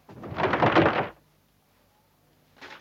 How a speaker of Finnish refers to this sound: Mitä sinä aiot, John? Avata oven.